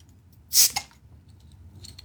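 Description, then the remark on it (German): A bottle of IPA (India Pale Ale) beer being opened: one short, loud burst of hissing gas with a small click right after as vapour rises from the top, then a faint, low background hum and a soft trailing fizz. “Achtung, ja, okay, jetzt gibt's noch ein Geräuschchen. Ich mache jetzt das einfach mal auf. Es ist ja auch ein IPA, also ein Indian Pale Ale.”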